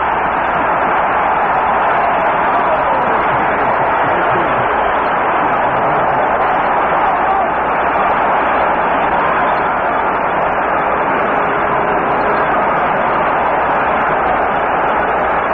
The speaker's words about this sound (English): The roar tells you how this highly partisan Detroit Lion crowd felt about that interception by left linebacker Bob Long from UCLA.